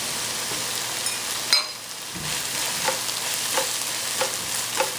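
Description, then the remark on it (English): Spinach sizzles steadily as it fries in a hot pan while a utensil scrapes and stirs it, with a sharp clack near the start and soft periodic scraping strokes throughout, moderately loud. “So our spinach is going. Okay, as our spinach is frying up, I'm gonna go ahead and add my dill weed in there so that gets all flavorful.”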